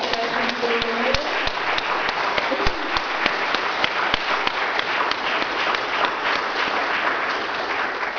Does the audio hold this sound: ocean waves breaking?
no